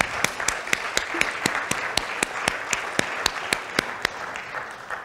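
An audience applauds steadily for about five seconds, a dense wash of clapping with sharper individual claps popping out at a brisk, fairly even rhythm. Nobody speaks.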